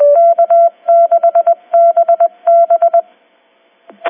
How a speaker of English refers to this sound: And that, folks, is what our K6BB Morse code sounds like.